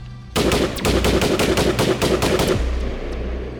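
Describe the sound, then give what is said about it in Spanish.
A loud, rapid burst of gunfire, roughly a dozen shots fired in quick succession like an automatic weapon, followed by a brief fading echo. “Enseguida la voz de allá adentro dijo: amárrenlo y denle algo de beber hasta que se emborrache para que no le duelan los tiros.”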